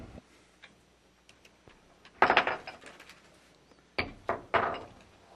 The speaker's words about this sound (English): And now we'll take a minute to shift our chairs. Thank you.